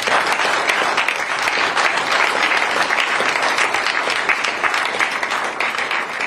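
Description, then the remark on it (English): Sustained applause from campaign volunteers at Pat Dugan's election-night speech in Philadelphia, a dense steady wash of many hands clapping at a fairly loud, even level for several seconds, with no voices standing out. “So please, give yourself a round of applause.”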